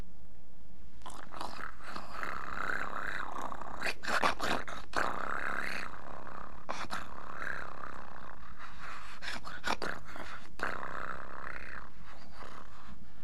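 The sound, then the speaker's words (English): A rough, purring snore made by someone lying down and pretending to sleep to outwit rabbits rumbles on in a steady rhythm of drawn-out breaths, gritty and growly in texture, at a moderate level with no talking over it. “Now he's lying down, pretending to sleep by making a purr snore.”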